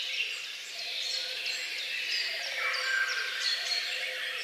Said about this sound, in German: Ich hielt alle Vögel rund um unser Haus mit einem Sony-Diktiergerät auf Band fest.